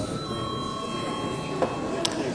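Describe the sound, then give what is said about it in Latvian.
A parliament session bell, called for by the chair before a break in the debate, rings in one steady, continuous tone throughout, set against the low murmur and shuffling of the chamber, with a couple of faint knocks near the end. “Lūdzu zvanu.”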